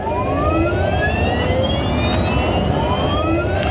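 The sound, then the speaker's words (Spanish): An electric car driving: a steady high whine with several thin tones sliding upward in pitch, layered over continuous loud rumbling road noise, with no one talking. “Este es el sonido que se ha impuesto en noviembre, mes que ha marcado un hito histórico, ya que por primera vez se ha logrado vender más coches enchufables que de diésel y gasolina.”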